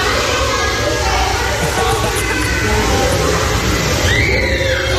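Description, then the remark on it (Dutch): A dense, constant wash of children shouting and playing over splashing water in an indoor swimming pool with a water slide the children go up and down, with loud echoing reverberation; a high rising squeal cuts through near the end. “Ik heb even een klein stukje meegenomen van hoe zo'n binnenzwembad klinkt.”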